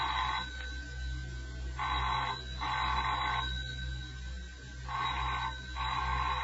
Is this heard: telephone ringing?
yes